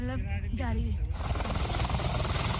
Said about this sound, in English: An 8-seater helicopter, more often used to carry tourists, has begun ferrying supplies to the villages, some of which are suffering from power and water cuts.